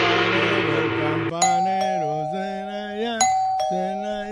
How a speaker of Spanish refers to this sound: Toca la campana.